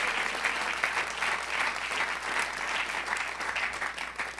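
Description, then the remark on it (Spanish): A church audience applauds the Lord steadily, a dense, sustained wash of many hands clapping at an even loudness with no one speaking over it. “Démosle otro aplauso al Señor.”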